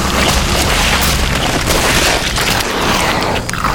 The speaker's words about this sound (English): As if on cue, a specially designed forklift appeared at the loading dock, dumping the contents of large storage containers into the box of Mark's truck.